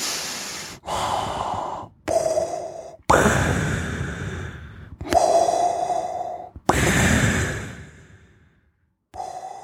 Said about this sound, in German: Ja, der ist leise. Leises Atmen, Schnaufen durch die Nase.